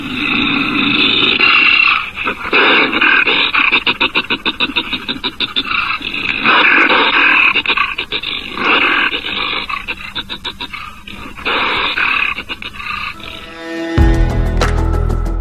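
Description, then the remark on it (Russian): A wolverine growls and snarls loudly in harsh, raspy bursts that go on almost without a break, then cut off into a brief tonal sound at the end. “Сегодня открывает программу «Росомаха».”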